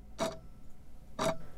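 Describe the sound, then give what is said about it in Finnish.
Two crisp clock ticks, spaced about a second apart, sound clear against a quiet, faintly humming background with no voices. “Kellon tikitystä, lumen narskuminen, lintujen laulu kuulostaa erilaiselta.”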